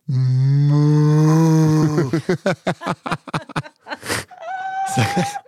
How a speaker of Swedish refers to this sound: Som ett öronbedövande råmande från andra sidan graven som tyckte skrika att det här var fel, fel, fel.